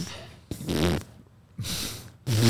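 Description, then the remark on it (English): Three loud, buzzy fart sound effects in quick succession, each a short sputtering blast with a rough low rumble, separated by brief pauses. “I don't mind being the butt that the farts come out of.”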